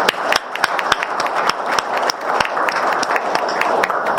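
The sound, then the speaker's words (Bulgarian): An audience at an evening event applauds the list of parliamentary candidates present among them, steadily, dense overlapping hand claps with a few sharper individual claps standing out, sustained at a fairly loud level throughout with no voices over it. “Ще имате възможност след това да се запознаете с тях по време на коктейла, така че аплодисменти за тях, те са сред вас.”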